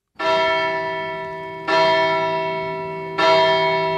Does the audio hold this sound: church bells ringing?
yes